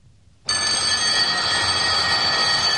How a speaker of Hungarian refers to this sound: Amit jól is tett, mert abban a pillanatban megszólalt az órára hívó csengő.